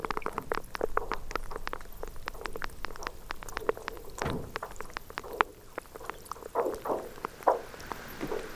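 Brash ice fizzing and percolating in water: dense, irregular crackles, pops and tiny bubbling clicks run continuously, with a few louder pops and occasional soft low thuds.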